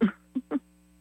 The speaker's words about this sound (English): We just had our air conditioning blow up on us